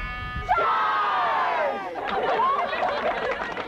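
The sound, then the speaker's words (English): A crowd of children at a summer education camp yell and shout together, high-pitched voices rising in a loud, sustained burst that wavers and swells for a few seconds before breaking into scattered cries. “If you want to hear all the kids yell, just do that one there.”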